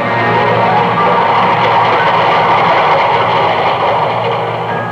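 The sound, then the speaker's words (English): A train rumbles steadily through the commuter section of a railway station, a loud, dense and continuous mechanical roar with a deep low hum underneath, unbroken for the whole stretch, with no voices. “This is the story of Alec Harvey and Laura Jessen and a life lived in the commuter section of a railway station.”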